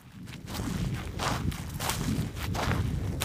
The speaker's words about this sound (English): That crispy sound is bunch grass. Too dry, too early.